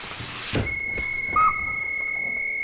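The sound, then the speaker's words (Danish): A station master blows a train whistle: a rush of hissing gives way to a shrill, steady whistle tone, with one brief, sharper blast near the middle. No voices. “Ja, så blæser han alligevel.”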